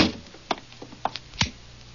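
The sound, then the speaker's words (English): The door of McVeigh's house is pulled shut: a few light clicks and knocks from the handle and latch, then a dull low thud as it closes, with no voices. “Well, close the door.”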